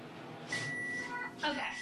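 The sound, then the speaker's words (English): A microwave oven runs with a steady whirring hum while an egg cooks inside, and a couple of short crackling bursts from the cooking egg break through it, moderately loud. “You can cook an egg in the microwave. Did you know? You shouldn't. All right, I'm hearing noises, but we only have 10 seconds left, so I think it's all going to be okay.”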